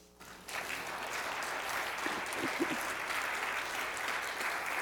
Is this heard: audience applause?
yes